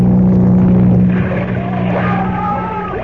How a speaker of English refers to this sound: Wait here underwater until the speedboat comes along. Ah, there it is.